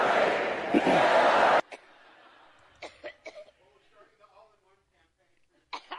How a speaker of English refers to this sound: The coughing fits, which is yet another side effect of strokes.